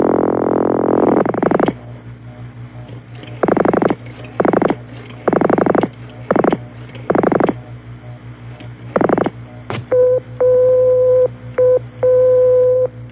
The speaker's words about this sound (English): There are no recordings at all in England, just special tones. The short and long tone means your number cannot be dialed, or your number cannot be completed as follows.